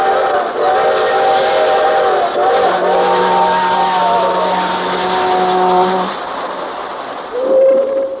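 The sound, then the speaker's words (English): Freight train whistles sound in a series of long, steady blasts, some bending slightly in pitch, layered over a low rumble, with a shorter, higher whistle near the end. “Hear 'em? The whistles of the freight trains?”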